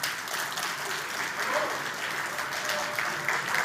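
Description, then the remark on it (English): Sustained applause from the audience of a DevCon talk, a steady wash of many hands clapping at even loudness throughout, with no voices standing out. “Big round of applause again, please,”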